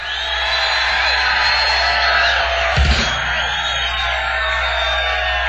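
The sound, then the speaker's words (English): A large concert crowd, broadcast over radio station KOME, screams and cheers loudly and steadily throughout, a dense wall of high voices with one brief low thump near the middle. “Let's give a big scream for radio.”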